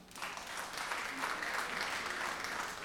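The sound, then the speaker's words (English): An audience claps steadily to vote that a passage just read was by Sam Alito, a dense, even patter of many hands that holds at a fairly constant loudness throughout with no break. “Please clap if you think that was Sam Alito.”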